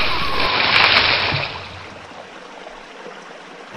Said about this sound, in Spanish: Una turbulencia brusca mueve la lancha. Muktop no puede controlar el movimiento y cae al agua.